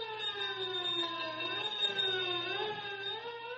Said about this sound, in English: Sirens wail as squad cars race toward the scene of the explosion.